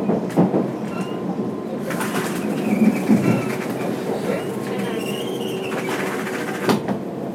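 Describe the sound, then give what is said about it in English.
A passenger train on a line stopping at Central, Macquarie Park, Macquarie University and Epping rolls along with a steady rumble and rattle, a high electric whine rising and falling over it, and a few sharp clunks from the carriages. “This train will stop at Central.”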